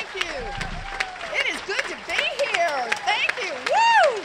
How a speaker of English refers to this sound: Warren walked on stage to a rock star's welcome. Cameras flashed, fans asked for her autograph, and superfans shouted, "Run in 2020.